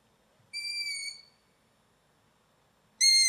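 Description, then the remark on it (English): Two drawn-out, high squeaky calls from owl chicks, their 'squeaky gate' call, like a rusty gate hinge, each a steady reedy note lasting under a second, separated by a pause of about two seconds. No one talks. “So they're the chicks. That's the squeaky gate chick call.”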